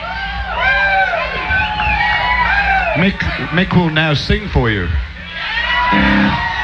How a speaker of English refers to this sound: Well, then you know it's not that pleasant an experience, so I don't know what you're cheering about.